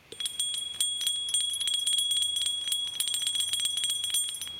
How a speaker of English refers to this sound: Now, the only thing I'll say about this is, right, if I got up out of my seat and I ring this bell and you go, that's a shit bell, I will swiftly move us on to the next topic.